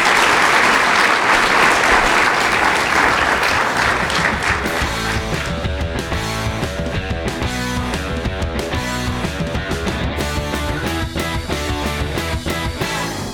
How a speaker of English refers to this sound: Okay, well, let's give a round of applause for a wonderful talk. Thank you.